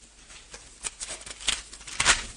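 A page of a book is turned, with a soft papery rustle and a few crisp flicks that end in a louder swish. It is fairly quiet, with no voices.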